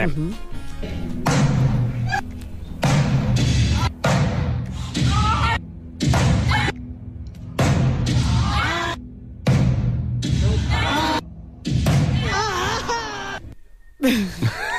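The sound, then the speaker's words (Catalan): Loud drum hits punch through a playing song, each heavy thump followed by brief gaps, with a strong voice singing over the music throughout. “Aquell toc de bateria.”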